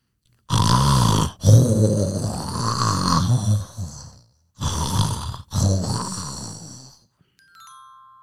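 A grandmother's loud, rasping snoring while asleep: a long rumbling snore, a pause, then another, each breaking into throaty grunting bursts, followed by a faint trailing tone.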